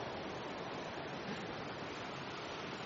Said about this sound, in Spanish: Es octubre, no tiene que estar lloviendo este mes.